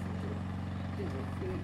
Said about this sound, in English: It was an unseasonably hot day, and Gino was mowing the lawn, which you can hear in the background.